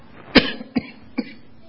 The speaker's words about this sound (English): I make myself cough doing that.